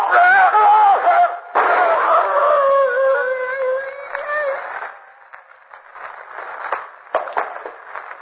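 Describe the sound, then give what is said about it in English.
A wolf howls in long, wavering, rising and falling tones as it comes for a man, loud for several seconds before fading away, leaving quieter rustling and scattered faint noises. “The wolf's coming for me.”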